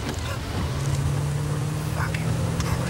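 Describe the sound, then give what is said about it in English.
A car drives through the rain with a steady low engine drone and a soft, continuous hiss of rain and wet road noise over the whole stretch. “drives his car in the rain.”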